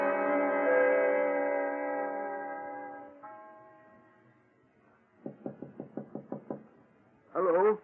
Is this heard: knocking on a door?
yes